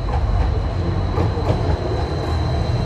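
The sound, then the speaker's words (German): A tram in the capital of Ethiopia, the first tram in sub-Saharan Africa, rumbles steadily past, its low, continuous rolling noise filling the scene with faint rail clatter and a thin high-pitched whine above it. “Viele moderne Fassaden, die erste Straßenbahn in Subsahara-Afrika, sie täuschen einen Wohlstand vor, der einen Großteil der Bevölkerung nicht erreicht.”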